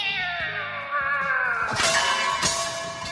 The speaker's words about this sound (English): Then we hear a cat being launched noise.